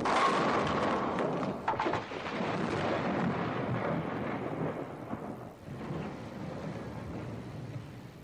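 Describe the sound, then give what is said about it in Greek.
A volcano eruption sound effect: a loud, continuous roaring rumble with deep thuds early on, keeping its heavy, crackling intensity for about eight seconds with only a brief dip near the end. “Θέλω ένα ηφαίστειο.”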